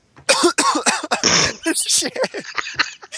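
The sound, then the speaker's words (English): A person coughs, a few harsh, rough bursts in quick succession with throaty vocal noises between them, fairly loud and filling the short moment. “I was going to do, and then a cough came out.”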